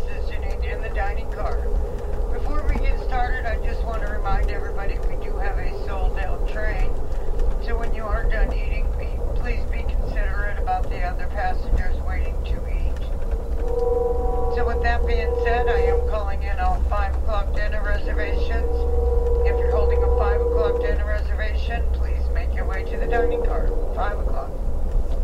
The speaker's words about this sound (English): If that doesn't prove we're on a train, I don't think anything will. That's the announcement for dinner reservations.